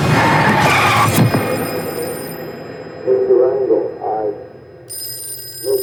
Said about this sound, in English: Phone call comes to her on the floor.